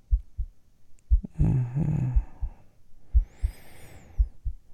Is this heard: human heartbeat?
yes